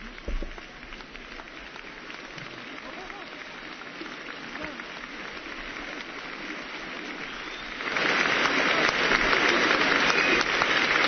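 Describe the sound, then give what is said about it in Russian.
An audience of adults gives a standing ovation to children from a youth organization as they come up onto the stage: dense, steady applause from many hands that swells noticeably louder toward the end and keeps going. “Взрослые стоя приветствуют детей.”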